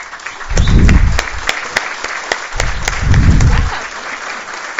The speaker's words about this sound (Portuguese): E eu queria que as minhas meninas, que eu chamo de costurete, porque a presidente permite que eu a chame, que vocês se levantassem antes de eu receber uma salva de palmas, porque é por vocês, por favor.